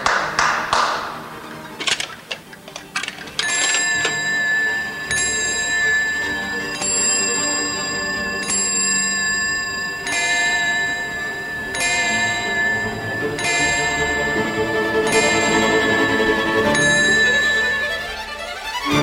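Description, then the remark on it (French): A few sharp mechanical clicks of a mechanical clock lead into its bell chiming about a dozen steady, ringing strikes, each tone lingering and overlapping the next, fairly loud with no talking. “Quand apparaissent les horloges mécaniques, les rois sont les premiers à les propager.”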